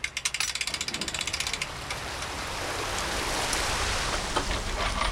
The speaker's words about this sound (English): to listen for a distinctive click or ping from a portable acoustic receiver. The device lets them track the tagged sturgeon and monitor them to find out where they go in the big lake.